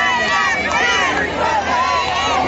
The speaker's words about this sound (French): Any minute now, the big reveal. Crowd is big. Ready to go.